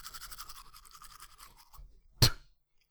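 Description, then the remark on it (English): Brisk scrubbing of a hog's-hair bristle toothbrush on teeth in quick repeated strokes for under two seconds, followed by a brief pause and one sharp, loud burst of noise before silence. “Oh well, better brush again.”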